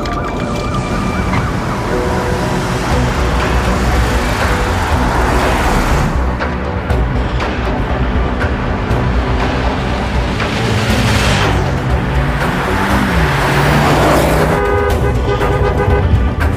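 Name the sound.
car driving in traffic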